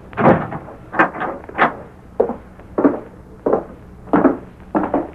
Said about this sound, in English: I'll lock the door.